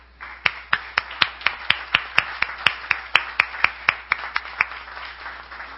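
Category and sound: crowd, audience applauding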